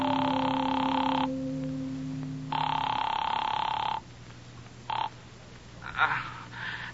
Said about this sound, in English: I found a cigar store still open, closed myself in the phone booth, and called him. The phone rang a long time before he answered.